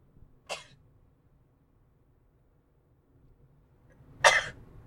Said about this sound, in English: I had to sneeze that time. That was a planned... absence from the microphone, sort of.